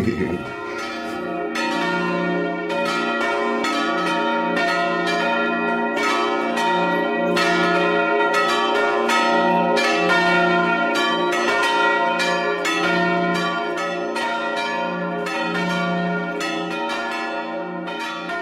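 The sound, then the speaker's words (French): Church bells ring out loudly and steadily for the whole stretch, many overlapping strikes in a quick, tune-like pattern with long ringing tones blending together. No voices. “est-ce qu'il vous est arrivé de faire des blagues avec les cloches?”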